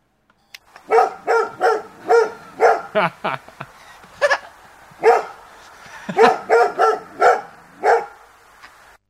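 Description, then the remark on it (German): A dog barks repeatedly in quick, loud bursts, with about fifteen sharp barks in irregular clusters over several seconds and brief pauses between groups. “wir bellen für dich mit und wir wollen sagen, alles Gute zum Geburtstag.”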